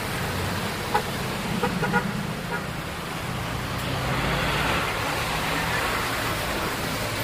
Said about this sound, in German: Und so beginnen wir unseren Besuch im Zentrum und spazieren, wie die vielen Meridaner, durch die Straßen mit ihren geschäftigen Läden, Cafés und Restaurants. Die Bürgersteige sind schmal und die Autos und Busse rasen an uns vorbei.